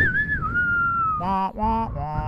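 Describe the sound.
Someone whistles a short, sliding melodic phrase, then breaks into two voiced, sung notes imitating the tune, a brief wavering rendition of a film theme song.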